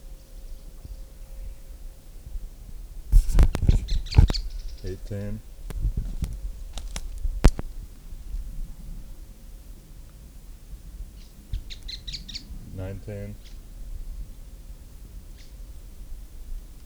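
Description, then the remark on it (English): Bird calls ring out in bursts: a clattering, chattering flurry of notes around the fourth second, a few sharp chips after, then another rapid rattling series near twelve seconds, over a steady low hum. “Birds.”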